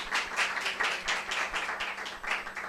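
audience applause

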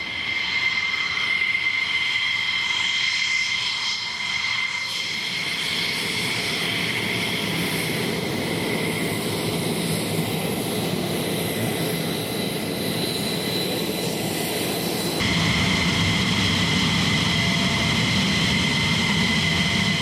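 jet aircraft flying past

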